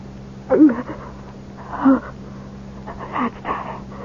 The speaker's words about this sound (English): I'm worried about that cough. It's nothing. I'm just very dry.